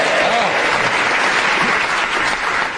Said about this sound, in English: The person who applauded when he said Gatsby, please stand up.